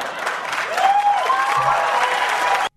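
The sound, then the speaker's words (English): A crowd claps steadily and fairly loudly, with a few whistles or cheers rising over the dense patter, before the applause cuts off abruptly. “I'm not clapping at that.”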